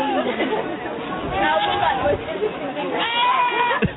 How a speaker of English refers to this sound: It's not as funny if you don't realize that these are goats yeah, screaming.